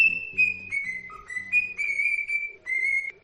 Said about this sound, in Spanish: es el caso de un hombre, ¿no?, al que entrevistamos aquí en COPE, cuyo loro silbaba el himno del Barça. Lo malo, lo peor de todo es que el dueño era del Real Madrid.